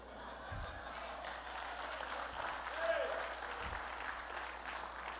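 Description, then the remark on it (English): A large church crowd applauds steadily at a Sunday night service, dense overlapping clapping filling the whole stretch with a faint murmur of voices mixed in, at moderate loudness. “And that wasn't even our largest crowd.”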